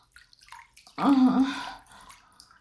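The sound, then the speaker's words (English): Water sloshes in a bathtub, with a single fairly loud surge of movement lasting under a second, surrounded by faint drips and small splashes. “I know, doesn't it feel so different when I'm in the water?”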